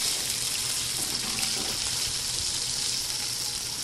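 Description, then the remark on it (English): Skate fish sizzles in a frying pan, seasoned with salt and pepper and not floured, with a steady, bright crackling hiss that holds at an even loudness throughout, with faint low rumbling underneath and no voices. “You can hear the sizzling right there.”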